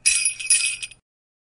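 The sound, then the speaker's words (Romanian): Sleigh bells jingle in a bright, shimmering burst for about a second, shaken in three quick pulses before cutting off into silence, a cue in a Christmas message from Santa to say a child's name for the nice list. “Spune numele copilului după ce auzi clopoței săniei.”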